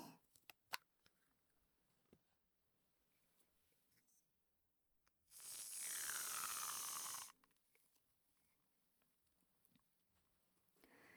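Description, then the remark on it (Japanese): Quiet crackling and fizzing of carbonated foam bubbles being used to wash an ear, broken by a loud hissing burst of about two seconds partway through, then soft fizzing again; no one speaks. “ずは炭酸泡でお耳を洗っていきますね”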